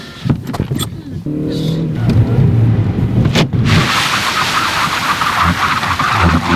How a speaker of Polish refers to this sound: jak on będzie reagował na płycie poślizgowej, czyli w warunkach o zmniejszonej przyczepności. Mamy jak najszybciej zatrzymać ten samochód.